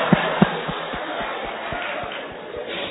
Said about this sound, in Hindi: ताली किसके लिए बजा रहे हैं?